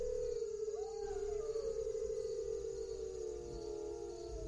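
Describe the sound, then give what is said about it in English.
Several wolves howl together in a long, overlapping chorus, their drawn-out tones rising and gliding over one another. The sound is sustained, with no voices speaking. “Wolves.”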